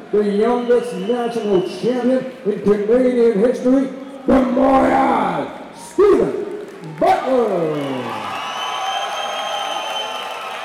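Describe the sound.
A boxing crowd yells and cheers as the boxers walk toward the ring, many voices overlapping in strained shouts that rise and fall, then settle into a long sustained roar near the end.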